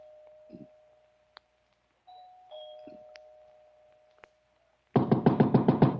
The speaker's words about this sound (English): It was night. There wasn't a light in the big house. I walked up the front stairs, punched at the doorbell, and heard it ring inside.